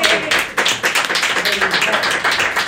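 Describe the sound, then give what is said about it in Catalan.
A burst of applause from a group, dense and steady throughout, with many overlapping claps forming a continuous crackling wash. “El tio previsor, sí, que va ficar en un avió un bot salvavida i 2 garrafes d'aigua, sí, aquest se l'ha d'aplaudir tot.”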